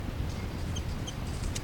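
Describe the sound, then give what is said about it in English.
A bird identified as 3-3 gives a chitter call: a couple of short, high, thin chirps followed by a brief scratchy burst, faint over a steady low rumble. “That's 3-3 chitter.”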